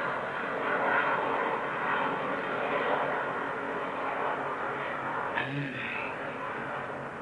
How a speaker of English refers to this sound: First of all, I'm going to wait for that airplane to go over.